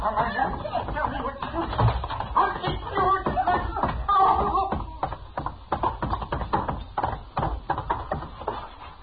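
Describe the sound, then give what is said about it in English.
A chaotic scuffle as a man beats his wife, with a rapid run of sharp thuds and slaps, irregular and loud, mixed with shuffling movement and muffled vocal grunts throughout. “He's beating her.”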